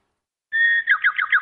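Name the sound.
bird chirping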